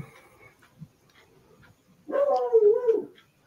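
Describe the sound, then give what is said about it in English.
A dog whimpers faintly at first, then lets out one loud, drawn-out whine lasting about a second, with no talking. “Apparently my dog's not happy about that.”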